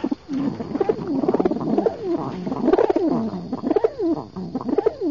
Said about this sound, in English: So let's give a listen to the rock pigeon. This bird almost sounds like a chicken roosting.